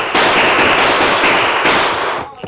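sound effect, gunshots

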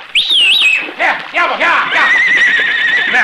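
animal, horse neighing

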